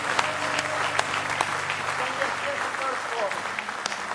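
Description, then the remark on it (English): A church audience claps hands in praise of the Lord, a dense, steady burst of applause, with crowd voices and cheering mixed underneath throughout. “Let's give Him a real good hand clap of praise in the house of the Lord.”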